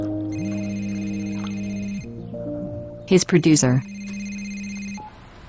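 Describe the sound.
A mobile phone rings with a steady electronic ringtone of sustained melodic tones, loud, continuing for several seconds while a voice briefly speaks over it partway through.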